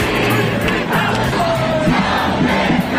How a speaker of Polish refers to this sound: Policjanci w sprzęcie taktycznym rozmieszczeni na terenie kampusu Uniwersytetu Kalifornijskiego UCLA, sąsiadującego z kompleksem namiotów zajmowanych przez tłumy demonstrantów krzyczących o wolnej Palestynie.